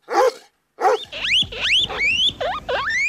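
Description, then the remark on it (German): A big female dog, excited as she is let loose, gives two short gruff barks and then a quick run of high, rising whines and yelps, fairly loud, with no talking. “du bist eine große Hündin”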